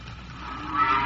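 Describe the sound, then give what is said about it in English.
A single cow lows briefly, a drawn-out moo that swells louder toward the end, in the barns of Farmer Lodge south of Holmstoke, where 80 cows line up at night for milking, with no one talking. “80 fine cows line up at night for the milking, and the chatter of the milkers echoes through the stalls.”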